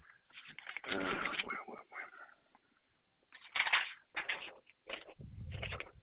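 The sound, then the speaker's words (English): Papery rustling and shuffling in irregular bursts, loud crinkly scrapes separated by short pauses, with a low rubbing thud near the end, as someone on a customer service phone call rummages through sheets of paper to get some paper. “Let me get some paper here.”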